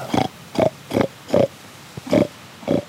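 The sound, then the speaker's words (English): A hunter imitates a hog, giving six short, evenly spaced oinking grunts, fairly loud, with brief pauses of quiet between each call, to lure a group of hogs closer in the woods on a rainy day. “After zigzagging through the woods for more than an hour, they see a group of hogs, and he starts to make oinky noises to lure them closer.”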